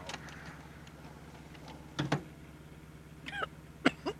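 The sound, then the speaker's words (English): A couple of short, harsh coughs burst out inside a car with the window rolled up while a cigarette is smoked, followed by a few more throat-clearing coughs, all over the steady low rumbling hum of the car interior. “Well, you wouldn't be coughing if you let me keep the window open.”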